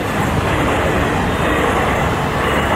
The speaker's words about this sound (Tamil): கேட்டுக்கொண்டிருக்கும் போதே ரயில் மிகுந்த இறைச்சலுடன் இருவரையும் கடந்து சென்றது.